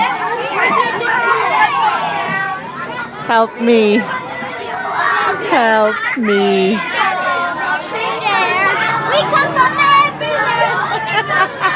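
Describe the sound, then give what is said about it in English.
A school bus full of third graders chattering and shouting over one another, with high-pitched squeals and calls rising out of a constant, loud babble of kids' voices and the low hum of the moving bus. “I am on a school bus full of third graders. This is what it sounds like on a school bus.”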